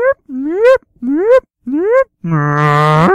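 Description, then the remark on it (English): A human voice imitates the call of a True's beaked whale: four rising, whooping glides in a row, followed by a longer, buzzy, sustained tone that swells at the end. No words are spoken. “Please tell us what a true's beaked whale sounds like.”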